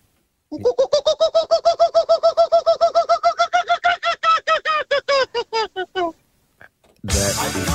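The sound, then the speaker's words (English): A person imitates a kookaburra call, rapid rhythmic hooting cackles rising in a long rolling series for about five seconds, loud, then a brief pause and a burst of noise at the end. “Oh, I've got the kookaburra for you.”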